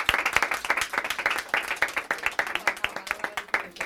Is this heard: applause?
yes